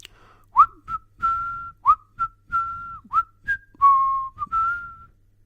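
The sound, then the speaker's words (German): A cheerful whistled tune by a man saying goodbye and leaving, clear, made of short rising chirps alternating with longer held notes in a bouncy rhythm, with no talking. “sagt er und verabschiedet sich lustig pfeifend.”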